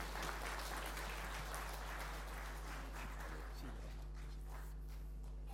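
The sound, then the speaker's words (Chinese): A church audience applauds during a Sunday morning service to welcome a visiting pastor, in a dense, steady patter of many hands that gradually thins and fades toward the end, with a low electrical hum underneath throughout. “弟兄姊妹，让我们以最热烈的掌声来欢迎”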